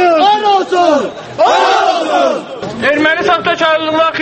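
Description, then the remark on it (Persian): A crowd of thousands of protesters chants and shouts slogans of shame and death outside the house of Azerbaijani writer Akram Aylisli, burning his photos and books, in loud, rhythmic bursts, rising and falling together with brief pauses between phrases. “بنیدهای شرمنده و مرگ بر تو، هزاران نفر در زیر تیرزه خانه اکرم ایلیسلی، یکی از نویسندگان سرشناس آذربایجان، عکس ها و کتاب های او را آتش می زنند.”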